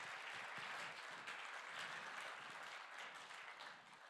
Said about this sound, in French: Très bien, magnifique. Bravo, on peut les applaudir.